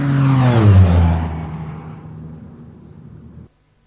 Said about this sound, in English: Excuse me, an airplane flew overhead and I couldn't hear.